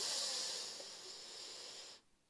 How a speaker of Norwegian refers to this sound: Skal vi puste da? Ok, da gjør vi det. Da starter vi med å puste godt inn gjennom nesa.